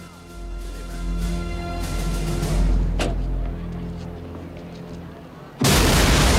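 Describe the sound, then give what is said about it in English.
Low rumbling background with a single sharp crack midway, then a van is blown apart by a sudden, massive explosion that roars loudly until the end. “Without warning, the van is blown apart by an almighty explosion.”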